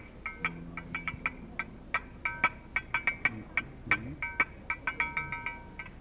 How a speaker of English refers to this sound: Then there was a man playing an iron bell.